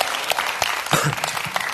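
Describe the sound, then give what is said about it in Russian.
Many people clap steadily in applause to God, a dense, bright patter of many hands at moderate loudness that holds evenly throughout without any voices. “Три Богу аплодисменты, родные.”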